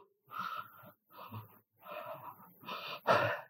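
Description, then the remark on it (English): A person breathes heavily through an open mouth, jaw pulled down by a therapist holding the chin, five loud, raspy breaths in a steady rhythm, the last one sharpest and gasping, with no talking. “And she just grabbed my chin and pulled it down. And I started breathing like this.”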